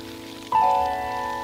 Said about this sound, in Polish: Nie widzą nas. Deszcz nas zasłania.